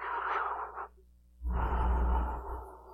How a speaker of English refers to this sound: Did you get the dude? The caller? Just keep listening. The breathing is the caller.